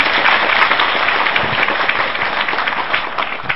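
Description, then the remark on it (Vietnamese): Sustained applause from a large audience of Buddhists at a dharma talk, welcoming a Buddhist nun. The dense, overlapping claps fill the space at a steady, loud level throughout, with no voices standing out. “Xin các Phật tử cho một tràng pháo tay.”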